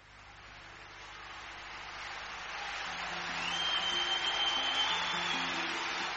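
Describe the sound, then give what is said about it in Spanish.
Sustained audience applause at a 1982 concert by a singer, a dense wash of clapping that swells in loudness partway through and stays strong to the end, with faint tonal whistles or cheers mixed in and no talking. “Y que menos suponía que iba a quedar yo registrado en esa cosa inolvidable, en estos aplausos.”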